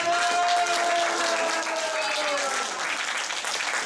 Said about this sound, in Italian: È bravo anche il batterista. Ora, un grandissimo applauso per il ….